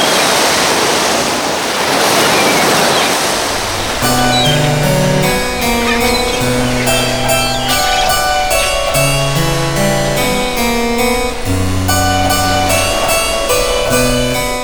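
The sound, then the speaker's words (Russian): Loud ocean surf roars and washes for a few seconds, a dense rushing hiss, before giving way to violin and harpsichord music with steady melodic notes while faint water noise lingers underneath. “От ручейка до бурного водопада. И, наконец, океана, куда все воды мира впадают.”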